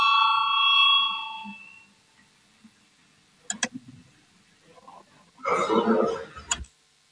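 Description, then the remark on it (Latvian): A clear, sustained parliamentary voting call bell rings at the start, called for a vote on proposal number 180, and fades over about two seconds, followed by a few sharp clicks and a brief burst of muffled noise. “Lūdzu zvanu, balsosim par 180.”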